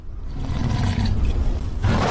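A loud, sustained lion roar sound effect from a TikTok digital gift, played as an animated lion runs across the screen, rumbles for about two seconds, deep and growling with a gritty, slightly synthetic texture and a brief swell near the end.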